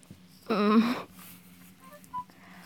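A phone's text message alert: a loud, buzzy electronic tone rising slightly in pitch for about half a second, then a couple of faint, short high beeps over a low background hum.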